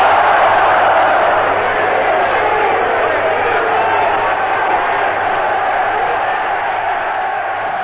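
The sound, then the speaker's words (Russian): A huge crowd of Germans in the Sports Palace at a Goebbels propaganda rally shouts and roars together ("Ja! Wir wollen!"), a dense, loud, unbroken wall of voices that holds steady for several seconds, with a muffled, old-recording quality. “И немцы в здании дворца спорта кричали: «Я! Хотим!»”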